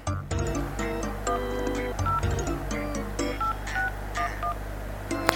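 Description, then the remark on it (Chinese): A rapid string of telephone keypad dialing tones as a phone call is dialed in a staged demonstration, short bright beeps pressed one after another in quick irregular rhythm over a steady low hum, clear with no talking. “当我们拨通电话的时候，就要等待对方给我们回。”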